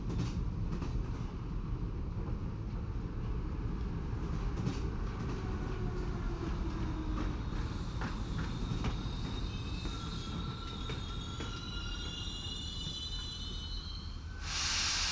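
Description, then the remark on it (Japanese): A train rumbles steadily along the rails with a constant low roar, wheels squealing in thin high tones as it slows to a stop on a bridge, then a brief burst of hiss near the end. “それではもう間もなく次の停車地点に到着いたします。”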